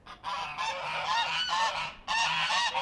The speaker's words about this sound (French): Des oies qui ont faim et qui me prennent pour la nourriture.